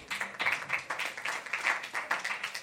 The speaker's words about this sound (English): We're just applauding watching TV.